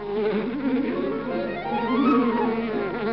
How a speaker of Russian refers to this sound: Это что? Что? По-моему, пчелы что-то подозревают. Подозревают? Не знаю. Но только они ведут себя подозрительно.